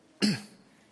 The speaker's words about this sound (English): Trying to cough with this thing on.